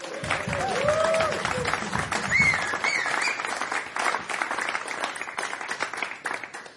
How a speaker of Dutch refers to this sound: En daarom wil ik een groot applaus van jullie voor pianostemmer Arjen Rezer.